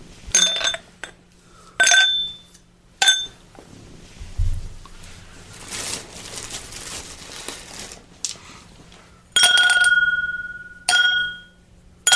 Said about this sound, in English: So what we need to do is put a couple rocks in a glass, let it chill, and see if we can come up with something new.